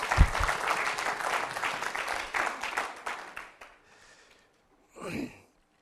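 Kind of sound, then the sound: crowd, audience clapping hands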